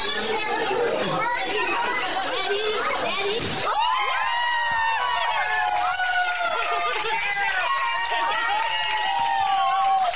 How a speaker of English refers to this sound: the whole restaurant, as you will hear in the background, were all clapping and cheering. There was confetti all over the place, and it was just a joyous occasion.